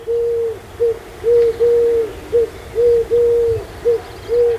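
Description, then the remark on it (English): A dove coos steadily, a low, hollow note repeated about nine times in an uneven rhythm of short and drawn-out calls, clear and fairly loud over a faint low rumble. “Having reached a great many rural towns in Oregon, Washington, and southern British Columbia, the doves will probably fill in north and south.”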